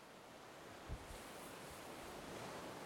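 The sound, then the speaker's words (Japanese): Steady ocean surf washes continuously against the shore, a soft, broad hiss with a brief low thump early on and a light touch of wind, with no voices. “だったら、私じゃなくて海の方を見てなさいよ。”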